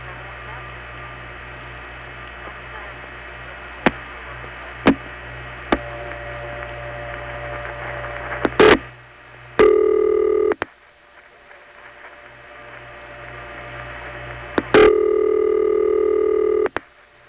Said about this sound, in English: The tick of the Columbus 4A cutting through will be followed by a couple of other ticks that the step makes, and then the ring starts.